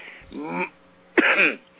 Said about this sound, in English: I'm sorry. I'm coughing.